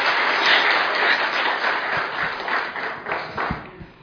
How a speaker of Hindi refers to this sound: पहले से जोरदार तालियां बजा दीजिए, डर चला जाएगा।